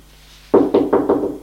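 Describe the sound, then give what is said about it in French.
A servant knocks four firm knocks on a door in a quick, even rhythm, each a loud, hollow thud with a short decay, following a brief quiet stretch. “On frappe à la porte.”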